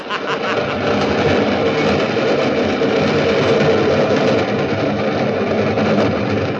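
train passing through

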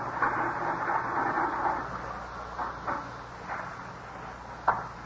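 adding machine totaling figures

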